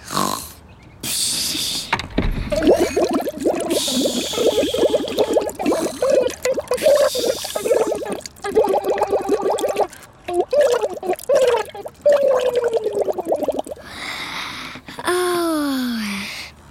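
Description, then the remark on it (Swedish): Continuous water bubbling and gurgling with a warbling, tune-like pitch, made by a goldfish named Bubbel bubbling a song, running steadily for most of the stretch before a few quick sliding, whistly tones at the end. “Det var hemligt bra bubblat.”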